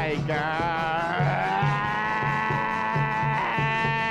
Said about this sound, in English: S is for the sheep.